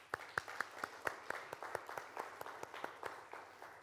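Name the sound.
round of applause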